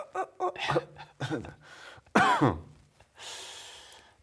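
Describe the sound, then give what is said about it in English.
A run of harsh coughs in uneven bursts, building to one loud, rasping cough near the middle, followed by a long wheezy breath out. No one speaks. “coughing. Mm. Love to cough.”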